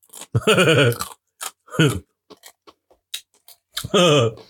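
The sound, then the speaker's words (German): Sharp little clicks and crunches of someone biting their fingernails, scattered irregularly between a few drawn-out, wordless vocal sounds. “Boah, kannst du nicht immer deine Fingernägel kauen?”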